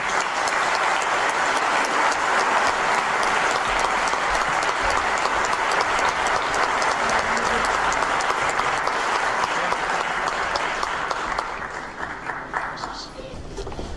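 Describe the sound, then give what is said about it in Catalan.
Sustained audience applause for Miquel Marçal, a dense steady wash of many hands clapping at a loud, even level for about eleven seconds before thinning out and fading toward the end. “Un aplaudiment per Miquel Marçal.”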